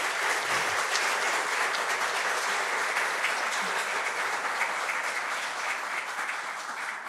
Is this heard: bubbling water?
no